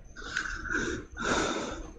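human body sound, breathing into the microphone

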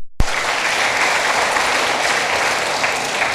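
crowd, big round of applause

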